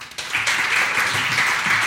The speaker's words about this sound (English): Up next, we have the local butcher, who was recently promoted to town coroner. Give him a big round of applause, the butcher, everyone.